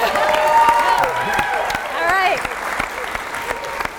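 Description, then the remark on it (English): A small group cheers and claps together at the start of the Spark Science radio show on a low power station at 102.3, with scattered sharp hand claps and excited whoops and voices rising over the clatter, sustained for several seconds at moderate loudness. “We can cheer now.”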